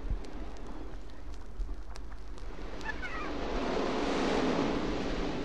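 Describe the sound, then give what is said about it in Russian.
Steady rushing ocean surf with a wave swelling and washing in toward the end, a broad hiss of water, fairly loud, with no voices. “3 дня плыл Вёлунд, пока, наконец, волны не пригнали его бревно к южному берегу Швеции, где правил тогда король Нидгот.”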